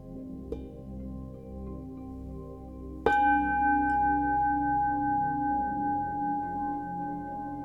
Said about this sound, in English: Take a final breath. When you're ready, at the sound of the bell, you can gently open your eyes.